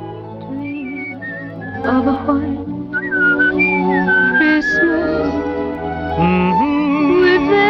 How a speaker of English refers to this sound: By the pipe on the piano, … whistles along in the background.